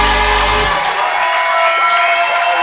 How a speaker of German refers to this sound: Okay, einen riesengroßen Applaus für meine Boys, meine Mentoren.